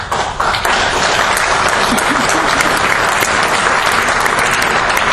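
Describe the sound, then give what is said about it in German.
Sustained applause from a large audience, a dense steady wash of many hands clapping at once, loud and continuous for several seconds with no pauses. “Applaus.”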